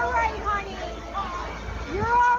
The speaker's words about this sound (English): You can hear kids screaming in video posted to social media, with adults below trying to reassure them.